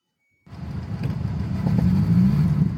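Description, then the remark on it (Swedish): After a brief silence, a turbocharged car engine roars in abruptly with a deep, rough rumble that grows steadily louder as the driver presses the gas. The turbo was turned up and the wastegate replaced so it opened wide. No voices are heard. “Det är alltså när jag trycker på gasen.”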